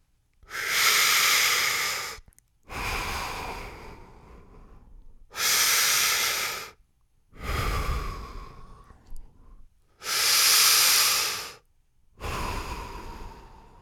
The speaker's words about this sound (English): So let's just do a few Darth Vader breaths together.